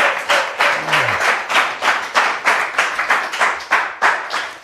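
Steady applause from an audience welcoming guest Dragoslav Stepanović, a dense wash of many hands clapping in an even, pulsing rhythm at a moderately loud level, with a brief low voice faintly underneath near the start.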